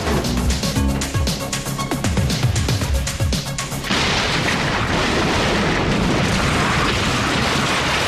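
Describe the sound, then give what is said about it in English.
A grenade thrown into the back of a truck parked against a building explodes: a loud, dense burst of crashing and crackling for about four seconds as the blast tears through half the building, then a steady roar of rumbling debris and rushing noise that continues without letting up. No voices. “The explosion tears through half of the building.”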